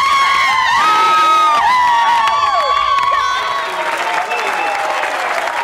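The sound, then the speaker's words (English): A huge crowd of thousands of fans and voters screams and cheers loudly and continuously at a live weekly television broadcast in Venezuela, with high-pitched shrieks and whistles rising above a dense wall of applause that fills the whole stretch. “Every Sunday, he flies his desk to a new location to perform for his thousands of screaming fans and voters.”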